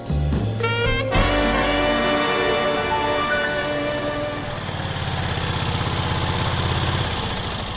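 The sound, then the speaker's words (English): A small scooter engine idles, a steady buzzing putter with a brief rev near the start, then settling into an even rhythmic chug. No one speaks. “We've arrived at Cliffo, but bloody hell, I can hardly climb off the scooter.”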